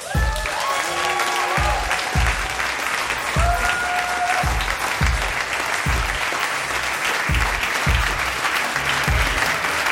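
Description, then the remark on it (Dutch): A crowd applauds steadily at a live show of De Eeuw van de Amateur, welcoming hosts Botte Jellema and Ipe Driessen, with dense clapping at a steady level throughout and a few whoops and cheers rising above it early on. Only a rhythmic low thump sounds beneath the clapping. “Graag een bemoedigend applaus voor Botte Jellema en Ipe Driessen.”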